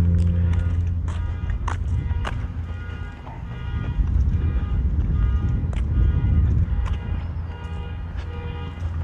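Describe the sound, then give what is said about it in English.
During a morning walk in March 2023, a car alarm sounds outdoors, a steady electronic tone, while footsteps crunch along and wind rumbles across the microphone. “Haven't heard that in a while. Somebody's car alarm.”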